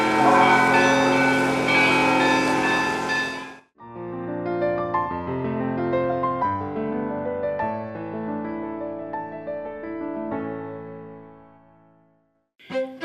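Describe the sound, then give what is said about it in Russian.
Small church bells on a temporary installation on Kremlin Square in the Nizhny Novgorod Kremlin, rung by children, sound in a busy, overlapping peal, many clear metallic strikes layered over one another with long ringing decays, loud, with no voices. “В это время все дети, которые оказались рядом, смогли собственноручно позвонить в более мелкие колокола на временной установке.”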